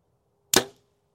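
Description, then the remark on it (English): A single arrow tipped with a Magnus Bull Black Hornet broadhead smacks into a target with a sharp thwack that fades quickly, over a faint steady background hum and no voices. “Should I go dead center, ruin another arrow? Maybe I'll go high.”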